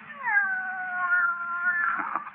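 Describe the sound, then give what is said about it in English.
A cat lets out a single long, drawn-out meow that holds steady for about two seconds before breaking into a rougher, wavering end. It is fairly loud, with no talking. “Will you listen, Kitty?”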